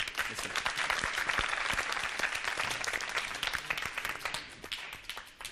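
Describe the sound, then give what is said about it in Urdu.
An audience breaks into sustained applause to encourage Team C after its choice in a contest, dense overlapping hand claps forming a steady, lively roar that holds for several seconds before starting to thin out at the end. “Team C کا انتخاب یہ لڈو ہے، ان کی فی الحال حوصلہ افزائی کیجیے گا زوردار تالیوں کے ذریعے.”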